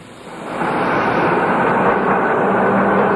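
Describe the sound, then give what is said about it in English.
A train rumbles along the rails, a steady, loud roar that swells in after the first half second and holds without letup. No one speaks. “For 11 months of the year, Schindler lived in poverty in a one-roomed apartment in Frankfurt opposite the railway station.”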